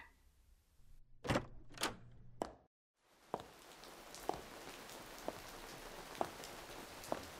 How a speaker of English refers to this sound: Of course, it started raining. I should have picked a better day for the both of us. Now I'm gonna meet him with completely soaked clothes and wet clothes always has an icky smell.